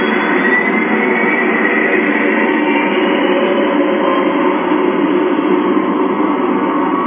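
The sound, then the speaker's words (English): A newly bought motorcycle is started up, its engine running with a loud, steady, rumbling roar that holds an even pitch and volume throughout, with no talking. “And I'm going to start up my new motorcycle here.”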